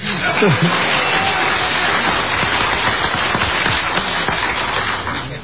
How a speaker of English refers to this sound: How many of you were here for that? Oh, good number. Good number. The rest of you can clap. Go ahead.